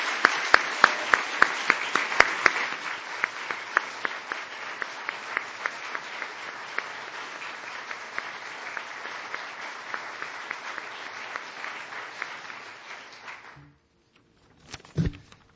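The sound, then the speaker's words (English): A sustained round of audience applause, dense and steady with sharp individual claps, lasting about thirteen seconds before cutting off abruptly, followed by a brief faint sound near the end. “if you guys are up for it, I'd love to just give her a round of applause for all she's done.”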